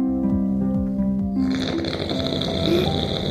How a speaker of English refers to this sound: Perth best snorer, have a listen to this.